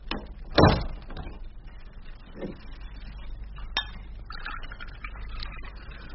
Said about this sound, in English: And close that door as you go.